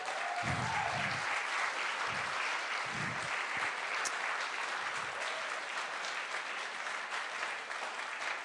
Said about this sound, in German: Lass uns mal Gott einen riesengroßen Applaus geben. Come on.